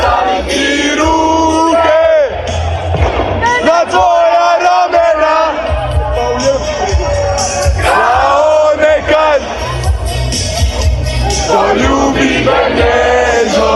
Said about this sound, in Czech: Slavilo se nakon utakmice i diljem Lijepe naše. Navijači su do ranih jutarnjih sati slavili i pjevali.